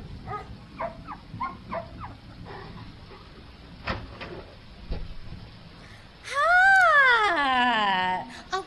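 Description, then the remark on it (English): Tex, a very large dog of a very rare breed, gives a run of short, quick barks, then after a pause lets out a long, loud whimpering whine that rises in pitch and slowly falls away. “Don't you mind old Tex. Oh, my. I've never seen a dog that big.”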